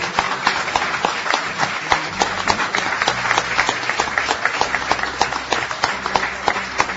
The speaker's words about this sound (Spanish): Vamos a agradecerle nosotros con un aplauso.